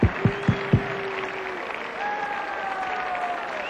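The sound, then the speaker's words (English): An audience applauds steadily throughout, welcoming a musician to the bandstand, a dense crackle of clapping. Four sharp, evenly spaced struck hits ring out at the start, and a few sustained tones rise over the clapping later. “Would you welcome, as soon as they get his instrument up here, the one and the only and the greatest, ….”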